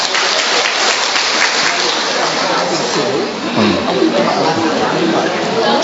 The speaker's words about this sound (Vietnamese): Chúng ta cho một tràng pháo tay thật lớn thưa anh chị em.